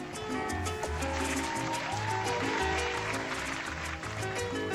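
Steady, dense clapping from a crowd fills the whole stretch at an even, fairly loud level, with a low rhythmic thumping underneath. The applause is dedicated to the listeners of an internet broadcast.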